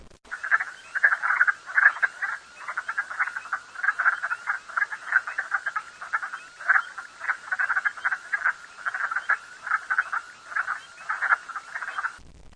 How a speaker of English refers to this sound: Category 3 is a full chorus. Frog calls are constant, continuous, and overlapping, and it may be very difficult to estimate the number of frogs. It is likely over 12 individuals.